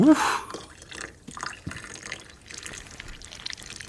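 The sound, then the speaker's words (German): Vinegar is poured onto baking powder while making cookie dough, a short splashy pour at the start giving way to a soft crackling fizz with scattered small drips and pops as it foams, no voices. “Wow, das Backpulver fängt ja richtig an zu schäumen.”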